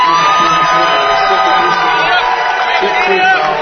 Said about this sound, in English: The Winona crowd behind us as well, not liking that call.